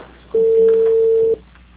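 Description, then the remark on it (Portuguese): A telephone ringing tone sounds once as a call is placed, a steady, clear electronic beep lasting about a second, over a faint background hiss with no talking. “fazer uma ligação aqui, tá?”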